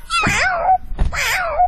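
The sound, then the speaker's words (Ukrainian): A tall grey-haired man imitates a cat with two loud, drawn-out meows in quick succession, each rising and then falling in pitch, clear with no other talk, as he performs animal imitations for children gathered around him on a street. “А котик как?”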